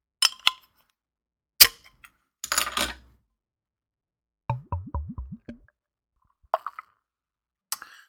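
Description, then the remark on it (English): A beer brewed with German Magnum and Tettnanger hops is cracked open: a few sharp clicks, then a short burst of fizzing hiss, followed by gurgling glugs of a fairly aggressive pour and a couple of light clinks, with no talking. “I'm cracking it.”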